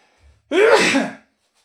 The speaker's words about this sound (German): Ich muss mal kurz niesen, Moment.